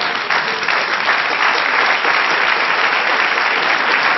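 An audience claps steadily as an applause to the Lord, a dense, continuous wash of applause that stays loud and even for several seconds with no voices above it.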